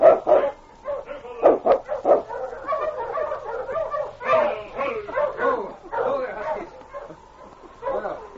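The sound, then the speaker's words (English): The sled dog teams of Sergeant Preston and the constable bark and yip excitedly, many voices overlapping in quick, uneven bursts that carry on steadily throughout, loud. “A short time later, he heard the dog teams coming and saw Sergeant Preston and the constable in the distance.”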